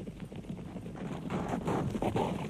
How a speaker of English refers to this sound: And so they rode forth, 24 horses, on their long journey towards Minas Tirith.